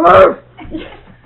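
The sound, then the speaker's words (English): A puppy gives one short, loud, high-pitched yelp with a falling tone, followed by a softer, fainter murmur of low sound that tapers off. “And the puppy says something there”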